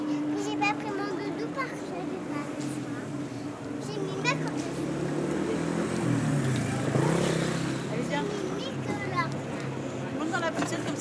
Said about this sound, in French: Et voici qu'arrive le bus 96, qui ponctue du matin au soir la vie du quartier.